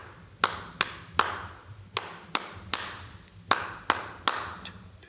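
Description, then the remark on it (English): Nine crisp hand claps form a rhythmic pattern, three groups of three quick claps separated by short pauses, sharp and bright with no voices. “Here's a rhythm, for instance, you went...”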